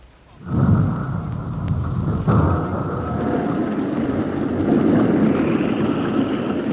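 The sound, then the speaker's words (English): A submarine slides down a ramp into a lock, propelled by magnets beneath the ramp's floor. A heavy, continuous rumbling roar starts abruptly and holds steady, with a faint mechanical whine running above it throughout. Loud, with no voices. “We are sliding down the ramp into the lock. The submarine is being propelled by magnets beneath the floor of the ramp.”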